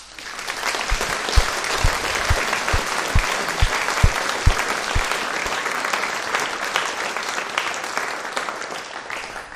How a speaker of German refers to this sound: Und ich glaube, wir dürfen da mal der Baukommission und auch wer da mit alles geschafft hat, einen ganz herzlichen und warmen Applaus geben.